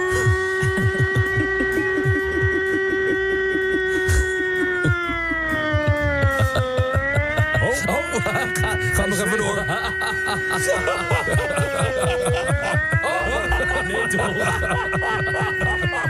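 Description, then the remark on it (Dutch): A person's voice imitates an air-raid siren, a steady wail slowly dipping and rising in pitch over a dense, rhythmic mechanical rattle. It is fairly loud and continuous for the whole stretch, with no talking. “En wij waren benieuwd of onze luisteraars ook een beetje lekker luchtalarm in huis hebben.”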